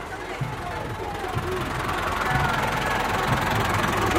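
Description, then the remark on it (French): Tractor engines in a column of about 400 tractors start and rumble with a low, steady diesel drone that swells slightly in loudness, with indistinct crowd chatter underneath. “Et ça y est, les tracteurs démarrent.”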